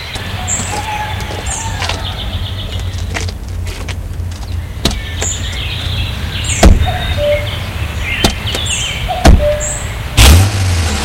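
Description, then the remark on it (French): The rear door of a large black car clicks open and thumps shut in a few sharp knocks as a chauffeur lets passengers in, over a steady low outdoor rumble, with birds chirping faintly in the background. “Il va ouvrir la portière arrière pour faire entrer l'oncle et l'enfant dans la voiture et entrer lui-même dans la voiture.”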